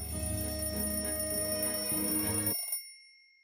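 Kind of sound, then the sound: household object, alarm clock ringing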